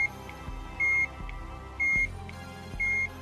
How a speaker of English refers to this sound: Plugging it into a powered-on Game Boy caused the Work Boy to emit a fairly loud beep out of the speaker on its underside.